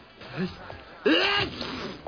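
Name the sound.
sneeze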